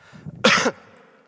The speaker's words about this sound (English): I'm going to cough.